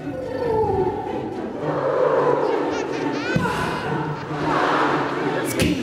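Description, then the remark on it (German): A large concert audience at the John F. Kennedy Center in New York in 2017 sings along with the performer, a dense, loud wash of many voices blending into one continuous mass of sound, with a few sharper accents near the end. “Und das ist ansteckend, wie etwa dieser Auftritt im New Yorker John F. Kennedy Center 2017 beweist, als das Publikum mit einstimmte.”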